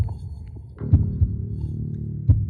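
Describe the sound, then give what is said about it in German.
Deep, muffled heartbeat thumps: a quick double beat, then a single thud about a second later, over a low, steady droning hum. No voices. “Ihr spürt euren Herzschlag.”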